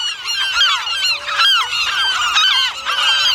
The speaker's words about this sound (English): Thick, angry shadows of gulls swirl above, diving down to peck at my head. I crouch to release the small bird. He staggers towards the edge in the red light of my lamp, raises his wings, and seems to vanish into the shrieking black sky.